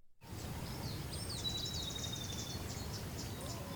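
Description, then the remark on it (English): A common yellowthroat sings a series of quick, repeated high phrases in a wetland, set against a steady low outdoor rumble with faint chirps from other birds. “This is a common yellowthroat, which I hear singing right now.”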